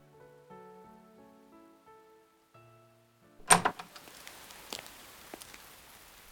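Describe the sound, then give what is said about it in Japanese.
Soft musical tones give way to a sudden burst of steady rain, a dense hiss with scattered louder drops pattering, continuing to the end. “雨が降ったら不便で仕方がない。”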